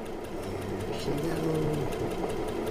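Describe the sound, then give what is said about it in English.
A sewing machine runs steadily at a table in a local church hall during a meeting, used to demonstrate making a 12-inch block of the month; its rapid mechanical whir and ticking needle continue without pause, with a faint murmur of voices in the background. “some in attendance gathered around a table with a sewing machine where … gave instructions on making the block of the month”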